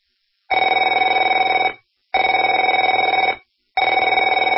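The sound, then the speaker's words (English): A telephone bell rings in three loud, steady bursts of about a second and a half each, separated by short silences, with a bright, buzzing metallic tone and no voices. “Afraid to answer it?”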